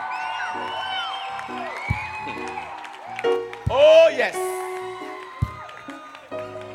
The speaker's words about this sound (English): Put your hands together for this great man of God, Bishop Dagiwad Mills, again, one more time.